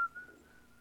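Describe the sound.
A single steady whistled note, held for just under a second at one pitch, faint, with no talking.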